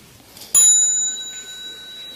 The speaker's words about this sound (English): So when you hear the little bell, you might like to stand up and bow to the Sangha before you go out and continue your practice.